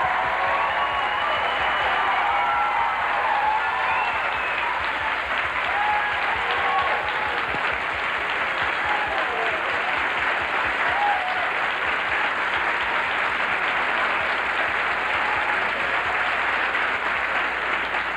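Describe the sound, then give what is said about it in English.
Sustained, loud applause from a large college audience welcoming a guest of honor fills the whole stretch, a dense steady roar of clapping with faint cheers and whoops rising over it, no speech heard. “And I don't want to waste a minute, although I love the applause.”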